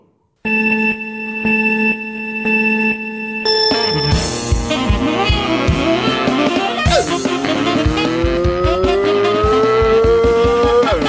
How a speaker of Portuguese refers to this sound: É de carro, né? E tem que passar a marcha.